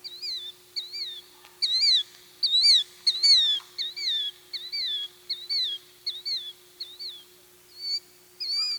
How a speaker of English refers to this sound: Bob Whites aren't the only Minnesota birds which were named for their call. Killdeers also say their name.